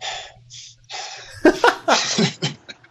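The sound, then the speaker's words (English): A person imitates heavy breathing: a few rough, airy breaths, then a burst of louder, voiced huffing gasps that sound almost like laughter. “Just heavy breathing, and it will be a visual experience of him taking selfie videos and moving around, showing different parts of the gym.”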